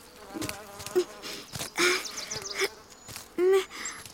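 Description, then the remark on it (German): Several short, nasal quacks from a duck burst out at irregular intervals, fairly loud, with a buzzy edge and scattered rustling and bumping noises in between as the duck tumbles down a small earth mound and bumps into something. “Elli Ente ist den Erdhügel hinuntergekullert und gegen etwas gestoßen.”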